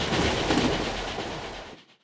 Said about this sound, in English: In third class, the cheapest seats. This train is so noisy.